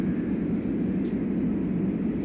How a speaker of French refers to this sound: Ici, on entend seulement les avions, le téléphone.